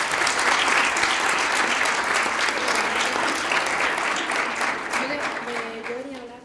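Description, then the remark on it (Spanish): Sustained audience applause, a dense steady patter of many hands clapping at full volume, tapering slightly toward the end with faint voices emerging beneath it, as two school students are called to the stage at an event about debating. “Un aplauso para ellos.”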